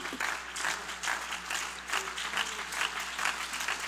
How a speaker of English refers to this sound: Somebody ought to put your Bible down, and I want you to clap your hands to the Lord today.